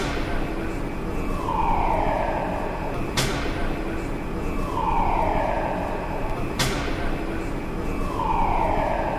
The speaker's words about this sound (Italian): Il segnale di allarme avverte che ci sono lavori in corso nel cantiere di Atlas, uno degli esperimenti costruiti per LHC.